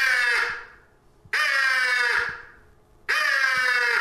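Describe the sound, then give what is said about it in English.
A crow gives three loud, harsh, drawn-out caws at a steady, unhurried pace, each hoarse note trailing off before the next begins, with no voices present; one crow calling for another in the early morning. “You hear that early in the morning? That's one crow looking for another.”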